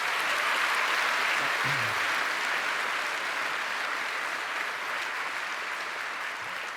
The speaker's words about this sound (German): Vielleicht mal einen kleinen Applaus für netzpolitik.org an der Stelle.